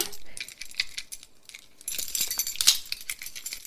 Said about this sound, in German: der hat schon den Autoschlüssel in der Hand und holt das Chipsackel. So, jetzt gehe ich zum Auto. Jetzt werden wir aufsperren.